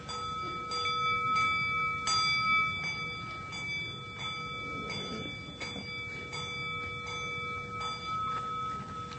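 A clock strikes midnight, chiming with steady, ringing bell tones that hang in the air, punctuated by a series of evenly spaced strikes over a low background rumble. No one speaks.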